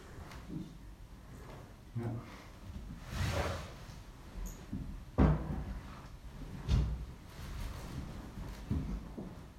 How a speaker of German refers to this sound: Und Türe schließen. Immer ein bisschen schwierig mit dem Korb, weil die Feder so lang ist.